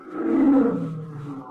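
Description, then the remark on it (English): A single deep, rumbling lion roar, sounding as if outside in the garden, swells quickly and then fades over about a second and a half, carrying on its own with no talking. “I heard something. Like a lion.”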